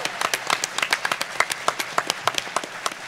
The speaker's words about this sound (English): And then, of course, Dills, who's not here. We miss you, Dills. If you're home, miss big claps for you, buddy.